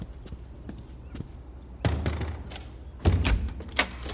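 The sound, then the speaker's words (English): A front door is opened: scattered light clicks, then a thud and rattle of the latch, followed by a louder bump and a final knock as it swings free. No one speaks. “I'll get it. I'm close to the door.”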